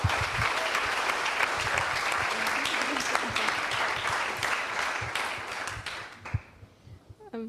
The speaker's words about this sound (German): Ein großer Applaus für diese Gruppe bitte.